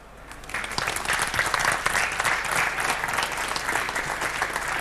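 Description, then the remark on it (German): An audience breaks into sustained applause after a talk, many hands clapping in a dense, steady patter that swells quickly in the first half-second and holds at an even level to the end. “Gab ich einen Applaus für den Vortrag und gibt es jetzt Fragen?”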